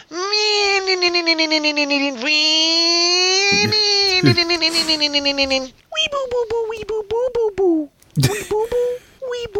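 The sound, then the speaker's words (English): A person vocally mimics a motorcycle left in first gear and sped up and down the street: a long, buzzy, pulsing drone that wavers in pitch, then several shorter choppy revs rising and falling, loud and alone. “And working on his motorcycle apparently means leaving it in first gear and speeding up and down the street.”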